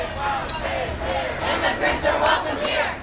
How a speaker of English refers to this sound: more than 1,000 high school students walked out of their classrooms to march in downtown San Francisco, protesting the election of Donald Trump.